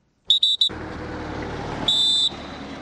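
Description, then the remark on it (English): Three quick, shrill whistle blasts in a row, then a pause and one longer, steady blast, all high-pitched and loud over a constant rumble of background noise. Cameroon troops blow the whistles at Makari to signal departure as about 3,000 Nigerians prepare to return to Kukawa village in Borno State. “Cameroon troops whistle to indicate it is time for departure as about 3,000 Nigerians prepare to return to the village of Kukawa in Borno State.”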